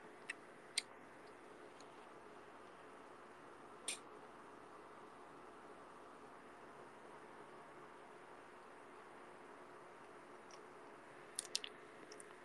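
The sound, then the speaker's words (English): Someone chews salty vegetables, with a few sparse, soft crunchy clicks spread across the quiet stretch and a small cluster near the end, over a faint steady hiss. “I think I put too much salt in the vegetables. Oh my god, it's so salty.”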